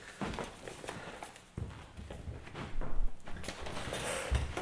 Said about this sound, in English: Jesus Christ, it's stuck. What is? The door, it won't open.